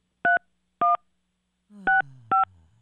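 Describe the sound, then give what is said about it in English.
A phone number being dialed as the Kiss 95.7 radio show calls a listener: four short, steady touch-tone beeps at an unhurried pace, the last two sounding over a low, gradually falling hum. No one speaks. “I'm going to call her up.”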